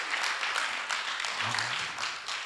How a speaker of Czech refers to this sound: OK, super. OK, pojďme jim zatleskat, to je úžasné. Díky moc, kluci, super.